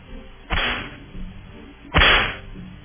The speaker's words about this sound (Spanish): Entonces, vamos a darle los latigazos a todos, desde el primero hasta el último en esa cadena de injusticia y esa cadena de deshumanización.